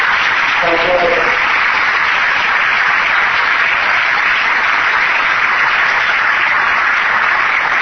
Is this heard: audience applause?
yes